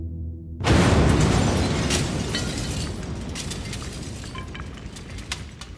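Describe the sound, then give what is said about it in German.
A bomb in a wastepaper bin goes off at 22:19 with a sudden, loud, dull boom after a moment of low hum, then a heavy rumble and scattered crackling debris carry on for several seconds. No voices. “Ich höre nur einen lauten, dumpfen Knall.”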